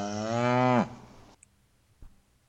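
cow mooing

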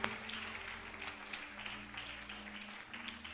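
hands clapping

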